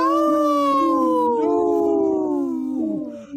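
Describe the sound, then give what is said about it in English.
A long, mournful wolf howl with several overlapping voices gliding slowly downward in pitch, loud and sustained for a few seconds before tapering off, with no talking. “In this portion of the show, we like to bring awareness to our Minnesota wolf population.”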